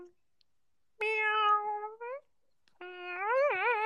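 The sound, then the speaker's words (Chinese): A person demonstrates imitating a cat's meow twice: a steady, nasal meow, a short pause, then a second, higher, wavering meow with a bending pitch, made by making the voice sharper. Both calls are clear, with no talking. “摸一凹喵，然后把这个嗓子呢变尖一点。喵。”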